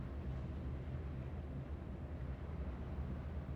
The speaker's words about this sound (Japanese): 静かな分、ディーゼルエンジンの音はとてもよく聞こえますね。